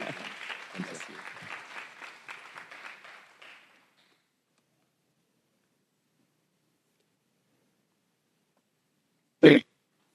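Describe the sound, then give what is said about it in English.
A crowd at SJSM claps together for a few seconds to welcome a speaker, the applause dense and steady before fading out into silence, broken near the end by a single sharp, loud thump. “So let's put our hands together to welcome our dear brother”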